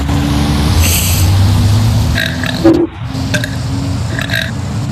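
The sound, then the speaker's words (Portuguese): A loud, drawn-out burp, sent in as an entry to a burping competition, rumbles low and steady for a couple of seconds, followed by a few short gulping croaks, with no talking. “Tô mandando o meu arroto pra competição, falou?”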